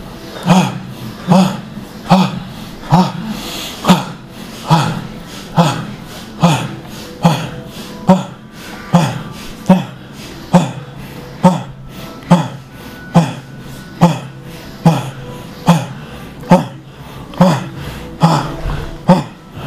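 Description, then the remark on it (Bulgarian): Loud, forceful breaths of a bhastrika pranayama breathing exercise, pumped in a steady rhythm, roughly one per second, each a sharp rushing inhale-exhale through the nose, continuing without pause and with no talking. “Дишай. Точно така. Продължавай.”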